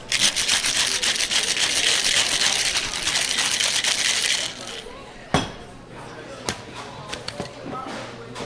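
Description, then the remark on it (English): A few small ice cubes rattle hard and fast inside a cocktail shaker with lemon verbena syrup at a restaurant for about four seconds, a dense continuous clatter, then stop, followed by a few sharp clinks and knocks. “And we're going to give that a vigorous shake.”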